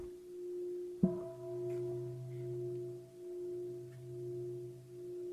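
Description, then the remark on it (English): A bell is struck once, then rings on in a long, steady hum of layered tones whose loudness slowly pulses and wavers. No one speaks. “Oh, I hear the sound of a bell, as if it's one thing.”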